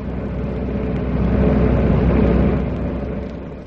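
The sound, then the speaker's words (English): A car engine rumbles low and steady, swelling louder through the middle as the vehicle passes by, then easing off as it moves away. No voices. “That car is going to play circuses until they do get you.”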